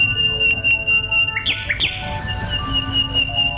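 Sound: nightingale singing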